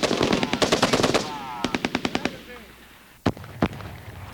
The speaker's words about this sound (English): On my command. Fire! Tracers. Explosions. Illumination rounds. You witness the deadly, incandescent beauty of night firing.